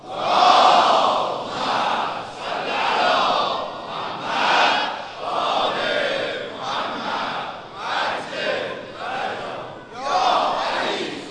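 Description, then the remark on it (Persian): A large crowd chants a salawat together in unison, loud rhythmic phrases rising and falling in several surging waves, with voices blending into one sustained collective roar. “حالا که محبت کردین، صلوات فرستادین و به من اجازه دادین که ادامه بدم، یک صلوات بفرستین که همه بفرستن و برسه انشاءالله به گوش آقا امام زمان هر جا هستن.”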